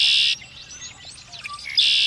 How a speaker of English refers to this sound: Red-winged blackbird.